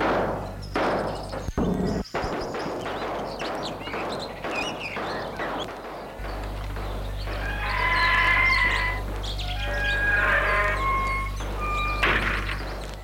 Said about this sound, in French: Le portail qui s'est ouvert.